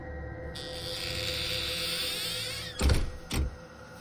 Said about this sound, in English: The narrow staircase creaked as I began to descend the steps. When I was about halfway down, the cellar door gently swung closed.